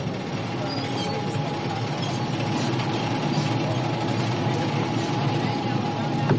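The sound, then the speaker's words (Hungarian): A steady, dense underwater rumble of a partly cut ship's hull moving during salvage for a crane lift, with faint, scattered crackles and creaks as the edges of a crack pop, running continuously, with no talking. “Az a baj, hogy nem hallok más, csak a felszíni hangokat és apró ropogásokat, ahogyan a hajótest mozog.”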